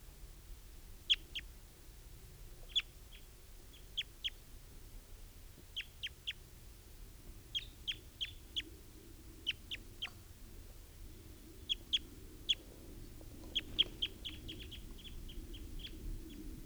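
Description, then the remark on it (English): A mature wild male bird calls with short, sharp, high-pitched chips, often in quick pairs or threes, repeating every second or two over a steady low rumble. No one speaks. “That's a wild bird, and he's still here.”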